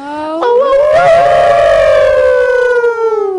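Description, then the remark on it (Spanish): Several voices let out a long, loud howl together, sliding upward and then slowly falling over a few seconds, imitating a wolf's cry, with no talking, as a tribute to a historical woman named Mariana. “¿Hacemos un aullido por Mariana?”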